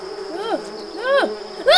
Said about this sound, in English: Get off me, you fucking flying dick! Is that a bee? Hate bees!